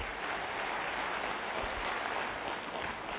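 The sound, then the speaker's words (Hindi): Steady applause from an audience at a talk, asked by the speaker to sit and clap, fills the whole stretch, a dense, even wash of many hands clapping at once, moderately loud with no talking over it. “या प्लीज बैठिए, हाँ ताली तो बजा दो.”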